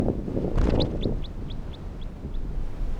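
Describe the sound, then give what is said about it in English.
A brief fluttering rustle, then a small bird just released from a net gives a quick series of about seven sharp, high chirps that steadily fade as it flies off, over a low rumble of wind. “It's recording releasing a bird that was in the net but I'm not going to keep.”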